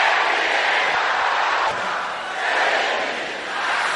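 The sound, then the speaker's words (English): A large crowd shouts a prayer together in a loud, sustained roar of many overlapping voices, filling the space continuously with slight swells and dips in volume. “That voice is still not loud enough.”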